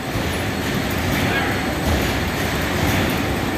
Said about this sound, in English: You are hearing the production lines running, the packaging packer, which is packaging over 200, 300 bottles a minute. So that's a big thud where the bottles are dropping into the cases.